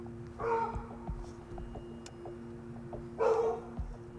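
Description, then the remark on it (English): Two separate dog barks ring out a few seconds apart at a junkyard, over a steady low engine hum with faint clicks in between. “The dogs are over there.”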